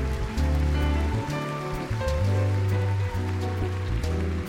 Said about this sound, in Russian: Спасибо вам за то, что вы пришли сегодня на наш концерт. Спасибо вам за ваши красивые цветы, за ваши красивые улыбки, за ваши громкие аплодисменты.